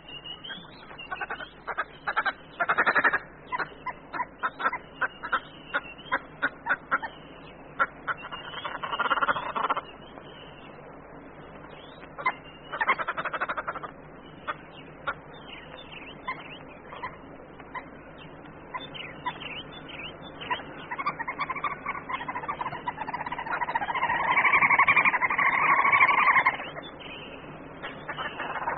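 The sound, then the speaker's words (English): A family of red-billed hoopoes in the bush cackle as they climb about trees, prying beneath the bark for insects: loud, rapid, chattering bursts, a harsh rattling chorus that rises and falls, swelling into a long, dense cackle near the end. No one speaks. “Such behavior would never be tolerated in a family of red-billed hoopoes, whose cackling as they climb about prying beneath the bark of trees for insects is one of the most disapproving sounds of the bush.”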